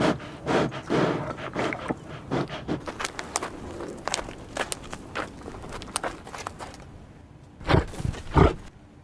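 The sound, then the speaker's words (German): Hundreds of reindeer snuffle and snort close by as they pass a tent on their way down into a valley on a sunny morning, in irregular breathy bursts, mixed with shuffling hoof steps, ending with two louder, deeper snorts. “Ich liege noch in meinem gemütlichen Schlafsack, als ein seltsames Schnüffeln und Schnaufen mich weckt.”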